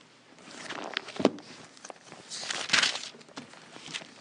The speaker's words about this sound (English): Colossians chapter 2 and verse number 11. When you find your place, say amen. Well, we know everybody's there. Colossians chapter 2, verse 11. I still hear some pages turning.